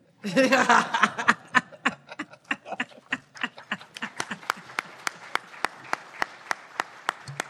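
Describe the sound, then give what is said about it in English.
A conference audience bursts into applause as a speaker is introduced, with a bit of laughter mixed in at the start, then the clapping thins out steadily until only a few scattered, sharp claps remain. “Thank you for that nice round of applause.”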